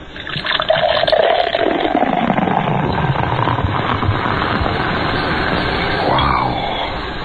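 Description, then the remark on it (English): A quick pop of the cap of an Aaron Brew Formula 1002 beer bottle, then a long, steady pour of fizzy beer, its hissing, gurgling tone sliding in pitch as the glass fills. No voices. “And remember, for real enjoyment, all you have to do is pop a cap.”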